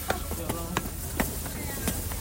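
Footsteps climbing stairs, about five or six close, distinct thuds at an uneven walking pace, over a steady low rumble with faint background murmur.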